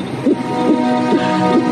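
A strong, healthy heartbeat of a baby conceived about eight weeks earlier, heard on an ultrasound monitor: fast, regular whooshing pulses, about four in under two seconds, over a steady electronic hum, with no talking.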